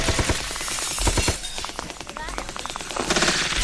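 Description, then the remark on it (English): Rapid bursts of video game gunfire crackle in quick succession, dense and loud, with sharp repeated shots layered over a busy game soundtrack and brief tonal effects. “Ow, a car shot me.”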